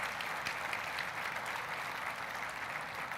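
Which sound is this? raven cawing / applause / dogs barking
applause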